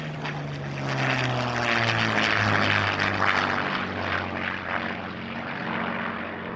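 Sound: propeller aircraft engine running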